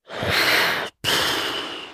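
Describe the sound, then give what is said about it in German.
Two forceful, breathy exhalations of dolphin-like marine animals surfacing close by, backs coming out of the water to breathe before diving again, loud, separated by a brief silent pause, with no voices present. “Und die waren so nah, dass ich sie tatsächlich atmen hören konnte.”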